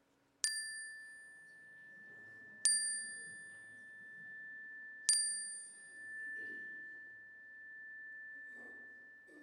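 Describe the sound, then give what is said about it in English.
A bright metallic chime strikes three times at steady intervals during a prayer, each ring sustaining a long clear tone that overlaps the next, with faint murmuring voices in the background. “I invite you to speak them aloud, any people or places in your prayers, to speak them aloud as the chime rings so that we can hold them with you.”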